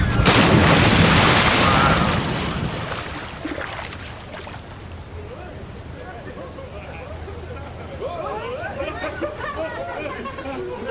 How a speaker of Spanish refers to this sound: Me informa el capitán que esta vez nos tiene una sorpresa y tendremos un descenso más aventurero. ¡Ay! ¡Ay! ¡Agárrense de donde puedan! ¡Haremos un acuatizaje!